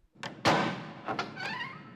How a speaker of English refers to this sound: The carriage stopped at last in a courtyard. A butler opened a heavy wooden door.